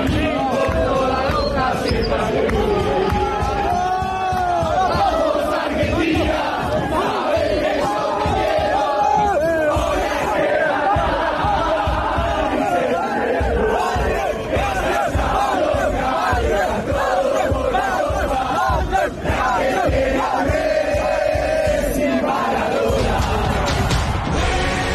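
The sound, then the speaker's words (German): A big crowd of celebrating stadium fans sings a chant together, loud and continuous for the whole stretch, a dense wall of massed voices with rising and falling melody and no single voice standing out; the song ends with a line about now winning the third star. “Das ist doch der Song, der am Ende damit aufhört und jetzt holen wir den dritten Stern oder so, ne?”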